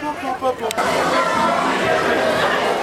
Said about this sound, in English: Okay, we're out of the background loop areas and only have ambient crowd noises. So we'll talk to you again. We get closer to the front of the Splash Mountain line.